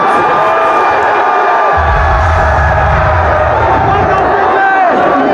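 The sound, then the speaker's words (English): A crowd of people outside cheers and whoops loudly across the whole stretch, a dense roar of many voices with a deep low rumble rising partway through. “People outside cheering, boat goes binge.”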